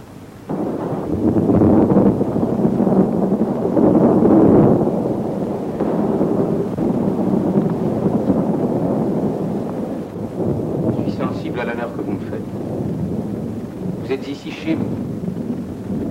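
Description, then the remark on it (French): A thunderstorm rages with deep, rolling thunder and steady gusting wind, loud throughout, the rumble swelling early then settling into a constant roar with a few higher whistling gusts. “Un seigneur égaré, surpris par l'orage, demande l'hospitalité pour la nuit.”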